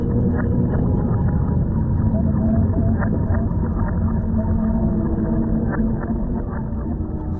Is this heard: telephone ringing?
no